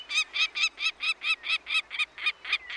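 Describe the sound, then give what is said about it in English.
A peregrine falcon calling in a rapid, steady series of about a dozen harsh, raspy cries, each loud and evenly spaced, with no other sounds or voices. “Peregrines can still be seen zipping across the sky.”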